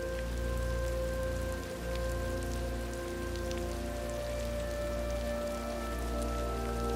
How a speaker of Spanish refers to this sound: La puerta está abierta y te permite una vista directa hacia el exterior mientras observas la lluvia que cae, trazando delicadas líneas.